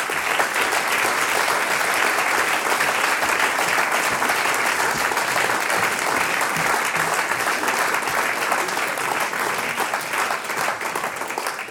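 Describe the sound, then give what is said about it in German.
Loud, sustained applause from an audience at a folk music concert, welcoming the director of Rogner Bad Blumau onto the stage; a dense steady patter of many hands clapping throughout, easing slightly toward the end. “die Frau Melanie Franke, mit einem großen Applaus”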